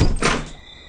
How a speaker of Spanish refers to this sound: Y entonces abrí de par en par la puerta.